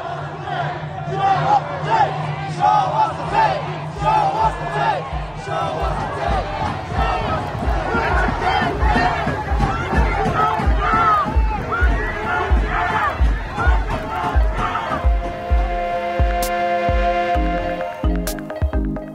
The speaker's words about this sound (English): in Los Angeles on Sunday, a crowd of hundreds marched to the Compton Sheriff's Station to demand justice for Andres Guardado.